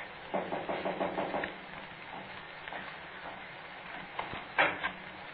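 A quick series of about six muffled knocks on a door, then a stretch of low background noise before a couple of heavier thumps near the end, footsteps coming in, performed as sound effects on cue from a script.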